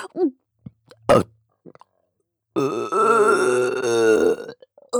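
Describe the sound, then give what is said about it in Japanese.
A long, loud, drawn-out burp, rumbling and wavering for about two seconds, preceded by a few short mouth noises and a brief sharp gulp. “こんなにゲップしたらまた我慢できなくなるかも。”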